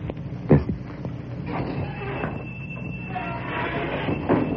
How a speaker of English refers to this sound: Abner, don't let that screen door slam every time you come in here.